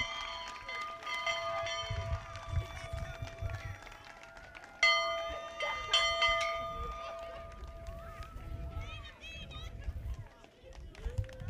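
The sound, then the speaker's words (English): A bell rings repeatedly at a high school graduation ceremony for the class of 2021, loud strikes leaving long, shimmering overtones that overlap and fade, with a fresh strong peal midway, over low rumbling crowd noise and murmuring voices. “I don't think that bell's had that much action in 20 years.”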